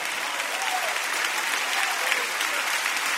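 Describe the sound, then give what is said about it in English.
An audience claps steadily together in praise to God, a dense, sustained wash of many hands applauding with no pauses throughout. “When you get grateful, when you open your mouth, clap your hands, shift your mindset, lift your eyes, and give God praise.”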